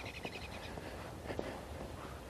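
A robin sings faintly on a chilly, sunny day, a quick run of high warbling notes near the start, set against a steady outdoor hiss with no one talking.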